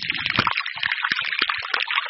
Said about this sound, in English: What does a glacier sound like? This is the Hans Glacier in southwestern Spitsbergen between Norway and Greenland.